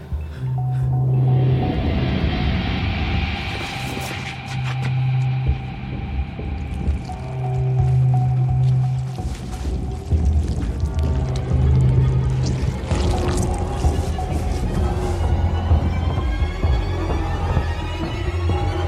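Water pours steadily and splashes for the whole stretch, with scattered drips and a low, droning hum underneath; fairly loud, with no voices.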